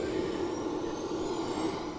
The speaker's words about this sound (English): As we hear a Chinook fire up its engines, I guess that's what they heard when some of these were leaving that night.